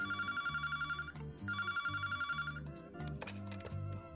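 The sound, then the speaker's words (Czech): A telephone bell rings one morning in two rapid, trilling bursts with a short pause between, fairly loud, followed by a brief jumble of electronic tones. No one speaks. “Jednog jutra mi je zazvonio telefon.”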